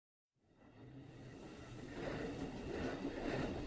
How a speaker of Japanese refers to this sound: 朝の電車すごい混んでるな。